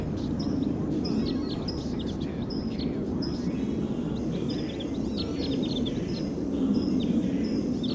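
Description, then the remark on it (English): A wild bird gives a series of short, high-pitched calls, roughly one per second, calling from a distance over a constant low rumbling background noise. “Wild bird calling loud in the distance, pointed in the direction of the wild bird.”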